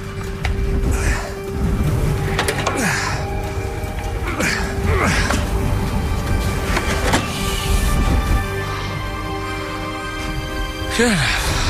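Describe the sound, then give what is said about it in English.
A snowmobile engine runs steadily on a test run after repairs, its loud droning hum rising and falling in pitch as the throttle is blipped several times, with sharp whiny revs near the end. “When I am out there, out on the trap line, snow machine is essential.”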